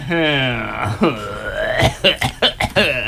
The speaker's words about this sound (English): Okay, well, I've got a silly clown honk. Ooh, I'm gonna love to hear that one. Ooh, now let's get that again in slow motion.